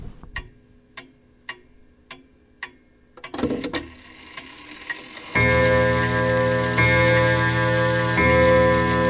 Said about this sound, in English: Quiet all, the clock is striking. Yes, it is rather lovely, isn't it?